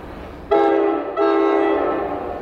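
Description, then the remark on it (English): A commuter train horn blares loud at the Middletown rail station in two blasts, a short one followed by a longer sustained note, over a low rumbling rail background with no voices. “parked her car at the Middletown rail station to make the hour-long commute into what everyone here calls the city.”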